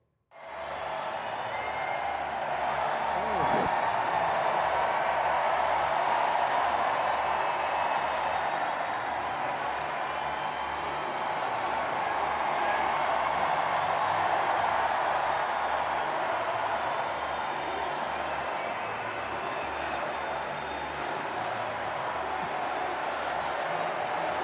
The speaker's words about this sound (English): People like, in this case, oddly enough, the President of the United States, who's actually being applauded here, as you're about to see, for stepping aside.